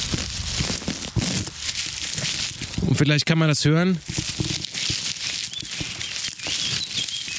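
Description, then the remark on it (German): A tuft of drought-dry grass is pulled out by hand in the Harz at about 800 metres altitude. It gives a steady stream of crisp, dense crackling and rustling, with a man speaking briefly over it midway. “Das knistert schon ordentlich, also die Vegetation ist hier schon ordentlich trocken.”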